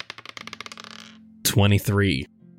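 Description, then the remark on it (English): Red dice clatter across a hard surface in a quick run of clicks that speed up and settle within about a second. A short burst of a voice follows. “I'm using the red dice for the lady in red.”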